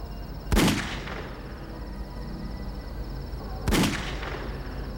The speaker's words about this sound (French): Il lui a tiré deux balles dans la tête, puis a procédé au camouflage de son meurtre.